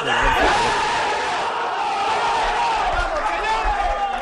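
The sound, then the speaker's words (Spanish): Valencia football players huddled in their locker room let out a loud, sustained group shout, many male voices roaring together in a dense, overlapping bellow with a few low thuds beneath it. “El corrillo de dentro del vestuario y el berrido que han pegado los jugadores del Valencia, que va a vestir todo de naranja.”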